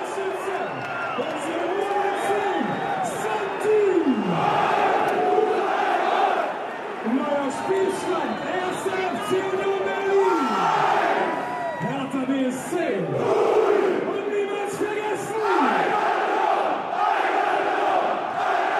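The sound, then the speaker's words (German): A huge football stadium crowd roars and chants continuously, thousands of voices rising and falling in sung swells and shouted cheers, loud and unbroken throughout with no individual speech standing out. “Der Rausch kurz und heftig. Die Menge wird zur Meute.”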